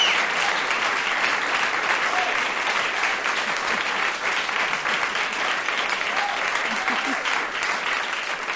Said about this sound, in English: This is an applause-crazy crowd.